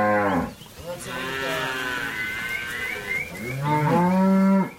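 cattle mooing

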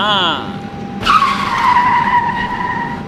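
tires skidding

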